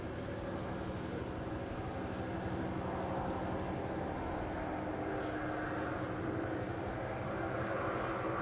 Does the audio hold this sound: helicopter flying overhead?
yes